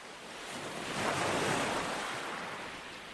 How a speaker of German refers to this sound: Ich grüße euch von der Nordseeküste. Ich bin im Urlaub, sitze am Strand, lausche dem Meeresrauschen